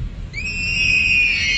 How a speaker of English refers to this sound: So I got this car, and whenever I roll the driver window down, it sounds like somebody's screaming.